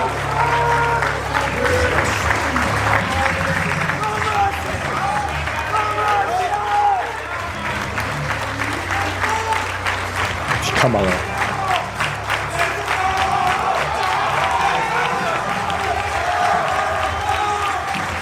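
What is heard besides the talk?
audience applauding and cheering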